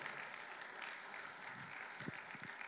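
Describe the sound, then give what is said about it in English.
An audience applauds steadily, a dense wash of many hands clapping at an even level throughout, with a few brief low thumps near the end. “Would you guys all give a round of applause for thank being brave?”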